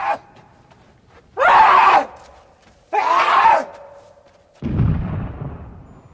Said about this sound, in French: Il rampe. Il marche et hurle. Je ne saurais dire s'il hurle pour pleurer ses morts, ses milliers de morts qui jonchent son royaume, ou si c'est pour fêter son triomphe d'animal bouché et pour nous remercier de tout ce sang versé.